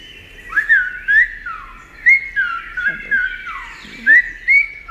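Loud whistling mimics the songs of blackbird, robin, chaffinch and chiffchaff: an unbroken run of sliding, warbling notes with repeated upward and downward swoops and short bright accents, without any talking.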